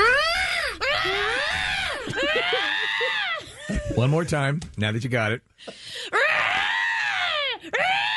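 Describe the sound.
A person voices a loud, wailing imitation of a bird call: long swooping cries with rising and falling pitch, repeated several times, broken up by brief spoken words in the middle.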